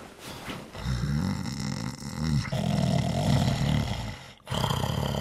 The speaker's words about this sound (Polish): Nie wstawaj, tylko się obróć na lewy bok, na tym strasznie chrapiesz.